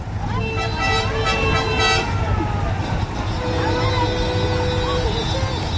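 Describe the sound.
Horns of vintage 1960s cars, mopeds and vans toot repeatedly at a gathering of 200 old vehicles, their bright, reedy tones overlapping in bursts over a constant rumble of engines and murmuring voices.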